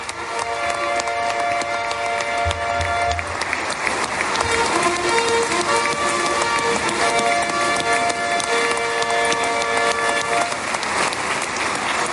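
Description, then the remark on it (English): Loud, sustained applause, a standing ovation from a large crowd at the Knesset as US President Donald Trump is poised to address it, roars without pause, while music with steady held tones plays through it the whole time. “So the first thing you will hear will be rapturous applause and music.”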